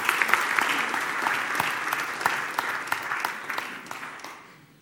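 A room full of people claps steadily for several seconds, a dense crackle of many hands that holds strong and then begins to thin and fade toward the end.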